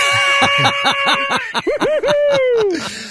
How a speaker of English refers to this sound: Now, why do you have the clown tools there? Why do you have the horn and the buzzer and all that stuff? It just makes me feel happy, that's all.